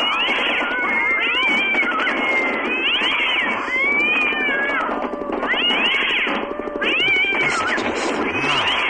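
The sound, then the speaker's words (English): A crowd of cats meowing and yowling all at once, overlapping wails rising and falling continuously, loud, with no talking. “Oh, there's a whole bunch of cats.”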